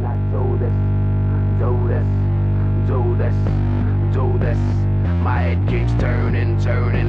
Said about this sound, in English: Yeah, basically when the song starts, there's just this droney sound. Mm-hmm. And that droney sound is, there's no instrument creating that sound, that's just this broken distortion pedal.